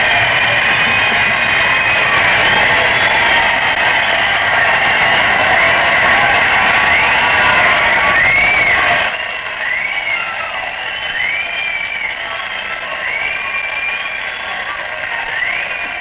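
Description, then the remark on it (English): A large crowd in a hotel ballroom cheers in a loud, sustained roar, with whistles and voices rising above it, as president-elect General Eisenhower approaches the platform to give a statement; partway through the din drops to a lower level but carries on. “Mr. Eisenhower is approaching the platform, and that is what all the cheering is for.”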